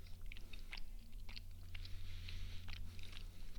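Wet chewing of a soft mochi, a rice-flour ball filled with sweet bean paste and containing tea, with irregular smacking and squelching bursts over a steady low hum, no talking.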